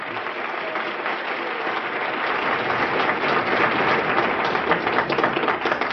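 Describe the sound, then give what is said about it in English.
Steady applause from an audience, a dense crackle of many hands clapping that holds at a fairly loud level and swells slightly toward the end, with no voices. “Well, I'm actually very indebted to you for the applause and for staying here today.”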